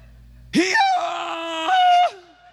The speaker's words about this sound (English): That's that donkey. Man, he gonna wake up the whole neighborhood. I mean, that was loud. I never heard anything like that in my life. It made every hair on my body stand up when I first heard that thing.